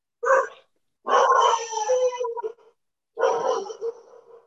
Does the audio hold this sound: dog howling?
yes